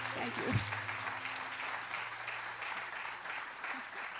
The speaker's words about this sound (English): Wonderful clapping.